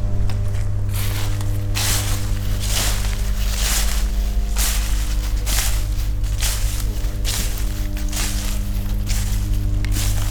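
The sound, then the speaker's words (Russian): Steady footsteps crunch and rustle through a pile of fallen leaves gathered by street sweepers, about one step per second, each a dry crackling burst, over a constant low mechanical hum from an electrical substation. “Сейчас здесь дворники собрали листву, и то немножко так идешь, и такой звук интересный.”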